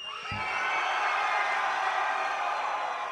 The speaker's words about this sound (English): Hey, yo, Orlando. Hey, Orlando. Okay, I want y'all motherfuckers to scream like it's coming from your soul, okay? Come on.